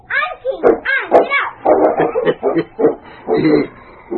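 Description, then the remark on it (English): A sled dog, King, the big lead dog hitched to a sled with a child riding on it, barks and yips excitedly in a quick run of loud bursts, with a few whining, rising calls mixed in, and no talking. “The good dog seemed to enjoy the fun as much as the child and started off carefully at her command.”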